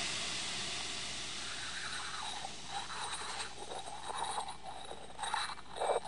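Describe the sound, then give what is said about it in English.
A steady, broad hiss of boiling, steaming liquid nitrogen poured directly onto a tissue sample in a lab to freeze it for DNA extraction, with bursts of bubbling and crackling sizzle swelling louder toward the end. No one speaks. “We've got liquid nitrogen. I'm going to be pouring it directly onto the tissue.”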